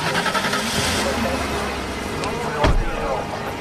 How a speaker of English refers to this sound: The chauffeur-driven car reverses away.